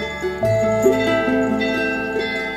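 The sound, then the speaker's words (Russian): Three small zazvonnye church bells, linked in one group and rung with one hand, ring in a quick, flowing trill, bright metallic strikes overlapping so their ringing tones blend into one shimmering, sustained sound at steady loudness, with no voices. “Зазвонные, они дают трель, дают такой как бы льющийся звук, как ручеек.”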